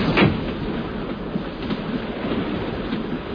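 A steady, rumbling roar of a train rolling along its tracks, heard as continuous low clatter and rushing noise, with a brief louder burst at the very start and no talking.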